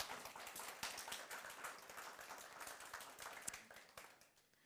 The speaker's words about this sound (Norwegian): Synes vi skal gi dem en applaus.